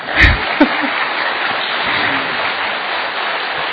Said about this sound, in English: So should we give an ecstatic round of applause?